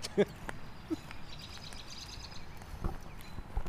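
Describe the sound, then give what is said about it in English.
Faint bird chirps flutter over a noisy outdoor background, with a couple of soft knocks near the start and a low murmur underneath. “Oh man, I like how this bird sounds.”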